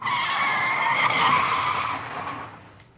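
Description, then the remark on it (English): A car driven by a woman skids just before a crash, its tires squealing in a long, loud, high-pitched skid that holds steady for about two seconds and then fades out. No voices are heard. “Look at the way she's driving.”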